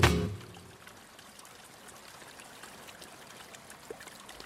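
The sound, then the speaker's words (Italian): River water flows steadily with a soft, continuous wash and faint trickling, beginning with a brief louder burst before settling into an even, moderately quiet stream. The river separates the centre of Seville from the Triana district. “Adesso guardo il fiume che separa il centro di Siviglia del quartiere di Triana, quartiere di allora gitano. Ascolto l'acqua.”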